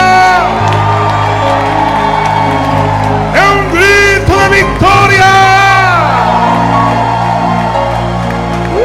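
An audience shouts a loud war cry together, many voices yelling and whooping at once for several seconds, over steady low instrumental tones.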